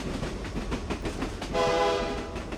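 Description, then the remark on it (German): An open train pulls away behind its locomotive with rhythmic chugging and clattering, then a loud horn blares for about a second over the rumble of the moving carriages. “Der Lehrer schwang sich in die Lokomotive und los ging die Reise.”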